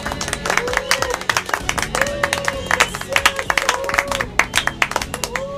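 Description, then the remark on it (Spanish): A crowd applauds a magic card trick with dense, steady clapping throughout, mixed with cheers and excited voices calling out over the hands. “¡Muchas gracias por sus aplausos!”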